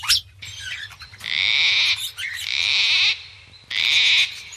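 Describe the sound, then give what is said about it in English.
Song of Australia's red-rumped parrot: three bright, sustained bursts of high, buzzy warbling trills, broken by short sharp chirps, with a low rumble of background noise underneath. “Its song might sound pretty enough, but straight from the mouth of Australia's red-rumped parrot comes a dire warning to all the inhabitants of this planet, humans included.”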